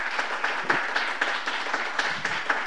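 Audience applause, a dense, steady wash of many hands clapping at an even loudness throughout, with a faint regular pulse running through it, and no one talking over it.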